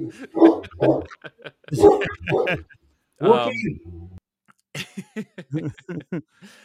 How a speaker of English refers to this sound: Oh, good. Now our dogs are barking at each other. She's just agreeing with your choice. Is the mute handy?